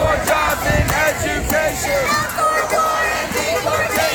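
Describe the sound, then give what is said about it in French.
A large protest crowd outdoors in front of a hotel, with hotel guests joining the demonstrators: many voices shouting and chanting together in a dense, steady roar with sharp bursts of noise rising over it. “Même des clients de l'hôtel se joignent à la manif et des personnes circulant en voiture viennent simplement se garer en plein sur l'avenue.”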